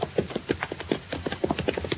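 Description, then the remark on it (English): Horse hooves clip-clop in a quick, steady rhythm, roughly eight or nine sharp beats, with no voices over them. “Leave our horses in the wagon shed there till we get a saddle on the stallion.”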